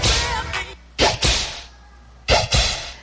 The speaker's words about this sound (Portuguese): Prepare o lombo, que lá vem chicote. Contagem regressiva. 3, 2, 1.